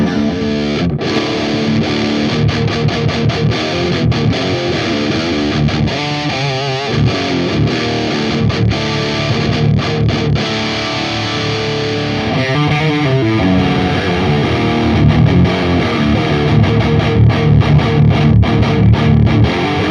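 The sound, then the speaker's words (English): Heavily distorted electric guitar, run through a TS9 pedal and a Mendelssohn into a Fortin 50-watt preamp and a Fortin 4x12 cabinet, roars in the room, playing chugging riffs and sustained chords with a thick, saturated tone, heard alone with no talking. “It's a TS9, and that goes into the Mendelssohn, and that Mendelssohn goes into this Fortin 50 watt preamp into a Fortin 4x12 cabinet, and this is how it sounds in the room.”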